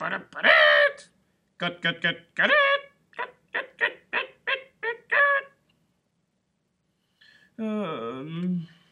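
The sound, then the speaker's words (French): A person imitates a hen clucking with a rapid series of short, evenly spaced vocal clucks, a longer squawk at the start, then a drawn-out wavering call after a pause. “Et la poule? Tu sais faire?”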